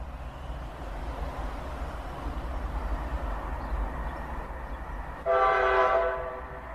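A train rumbles steadily with low, continuous mechanical noise as it starts moving again after a ten-minute stop for a repair, then a loud, sustained horn blasts near the end for about a second and a half. No one speaks.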